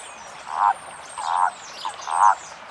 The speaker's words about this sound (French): Là, vous avez toutes les chances de voir ou d'entendre par exemple la grenouille rousse. La grenouille agile. Ou encore le crapaud commun.